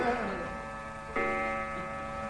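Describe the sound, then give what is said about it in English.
A clock chimes, striking twelve o'clock, its bell-like tones ringing steadily, with a fresh strike landing about halfway through and resonating as it slowly fades. “12 o'clock.”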